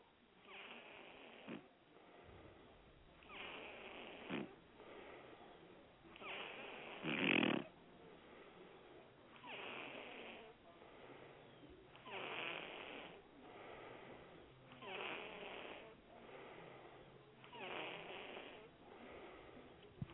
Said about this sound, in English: And now I don't know who this person is. They have a blocked number, but see if you can recognize this person by their snoring.